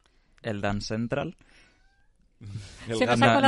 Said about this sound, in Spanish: El gato protesta. Sí, pero que será el de fuera, no el de adentro.